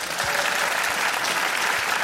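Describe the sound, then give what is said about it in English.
A live audience claps steadily to vote by applause on a question, a dense wash of many hands applauding at once, sustained and fairly loud throughout the short burst. “So how many people here think that they kept their same dicks by applause?”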